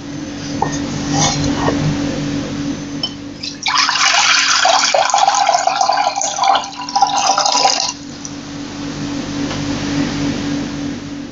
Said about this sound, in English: So today, as we bring all our things to God and ask for his forgiveness, we're going to wash our hands. So if you've got some water and a bowl and some soap, I want you to get them out ready.